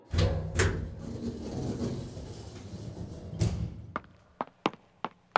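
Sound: front door being opened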